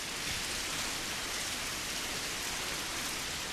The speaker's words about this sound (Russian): В театре есть целое собрание, фонотека всяких звуков. Можно включить шум дождя